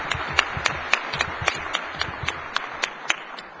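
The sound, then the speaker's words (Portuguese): Steady, rhythmic clapping with sharp claps roughly every quarter second over a dense background of scattered applause, moderately loud and without any voices, as an audience applauds the countries represented at the event. “Então, por isso, eu peço uma salva de palmas para os nossos países aqui representados.”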